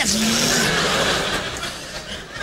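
A bus pulls away with loud screeching tires, a harsh squeal over a rushing engine roar that eases off only slightly toward the end.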